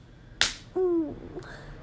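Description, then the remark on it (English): A single sharp slap of a hand against the genitals rings out, followed moments later by a brief voiced exclamation. “He's asked that I slap my pussy for you.”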